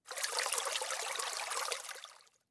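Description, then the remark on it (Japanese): River water trickles steadily past a deserted riverbank, a continuous bright burbling wash with no voices, holding even for about two seconds before fading away. “この河川敷、誰もいないから閉めるには最適なんだよな。”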